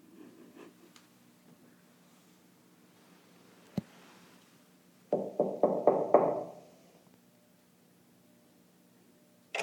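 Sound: knocking on a door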